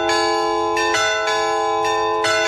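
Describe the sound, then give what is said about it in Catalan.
A festive civic peal of bells rings out loud from the Torre de les Hores, a small restored 15th-century bell tower, with overlapping strikes every half second or so, long shimmering resonance and no voices. “la Torre de les Hores recupera els tocs estrictament civils, com aquest, per exemple, el toc de festa”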